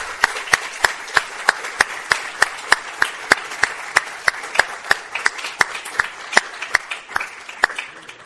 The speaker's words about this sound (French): Je ne sais pas si tu as entendu les applaudissements.